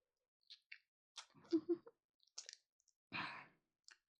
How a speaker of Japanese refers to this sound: 喉を鳴らしてゴクゴクって飲んでますね。美味しいですか？聞くまでもないですね。止める暇もないくらいに夢中で飲んでしまっています。